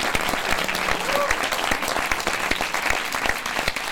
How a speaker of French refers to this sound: Donc, tous vos applaudissements.